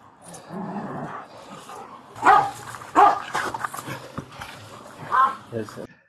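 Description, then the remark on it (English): A police dog barks loudly in a few sharp, irregular bursts, its harsh barks punching through a background of shouting voices and commotion. “Wow, we got three really good canine videos.”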